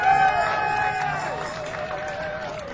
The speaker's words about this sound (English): On the guitar to my far, far left. How about a beautiful round of applause?